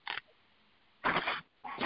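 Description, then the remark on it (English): A dog makes three short, rough, breathy noises separated by brief pauses, fairly quiet, with no one talking. “I have a very jealous dog, one of them.”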